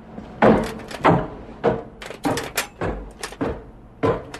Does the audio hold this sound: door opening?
yes